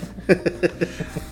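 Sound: dog barking and growling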